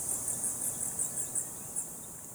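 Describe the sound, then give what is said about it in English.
High, thin chirps and squeaks from bats in the Phoenix Bat Cave, about nine quick bursts in an uneven rhythm, heard faintly over a steady background hiss with no voices. “Sometimes you can hear them. A little song, because they sing, they chirp, they trill, they squeak.”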